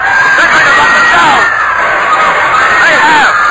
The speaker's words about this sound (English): The boat is jammed with sightseers. They're shouting and calling out that they want to have a look at bony parts